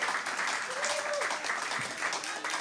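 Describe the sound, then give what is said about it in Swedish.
A steady wash of audience applause, dense, with many hands clapping together and holding at an even loudness for the whole stretch, a few faint voices mixed in; the audience is applauding a guest. “kan vi bara ge en varm applåd till Sara, som är min gäst också?”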